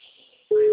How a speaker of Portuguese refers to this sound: É esse telefone que eu te mandei, ó. O número está ocupado.